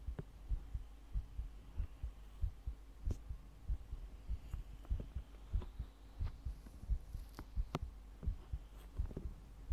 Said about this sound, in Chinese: 先生，只是让你听心跳，脸不可以来回蹭哦。